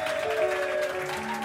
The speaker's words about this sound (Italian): Applausi, applausi, che facciamoci sentire.